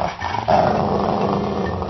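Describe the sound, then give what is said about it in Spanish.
A dog growls fiercely and continuously, loud, with harsh snarling bursts as it attacks and bites a person, no talking over it. “Señora, su perro me está mordiendo.”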